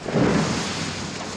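Ice booms and rumbles in a deep, loud burst that swells quickly and then sustains as a broad, roaring crackle, with no voices.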